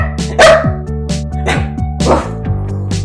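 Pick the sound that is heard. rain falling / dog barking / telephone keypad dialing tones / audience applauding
dog barking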